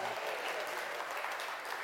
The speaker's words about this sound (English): Shall we give him a round of applause?